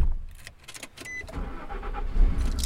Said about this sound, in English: I drove the car that Gordon helped me buy up to Nederland. I drove fast.